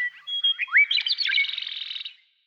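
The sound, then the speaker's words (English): A single songbird sings a short, varied phrase: whistled notes and quick upward slurs give way to a fast, buzzy trill that fades out after about two seconds, heard alone. “The key to this extraordinary range of sounds lies in the bird's physical anatomy.”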